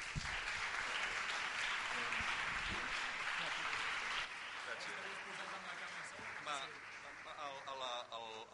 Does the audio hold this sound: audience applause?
yes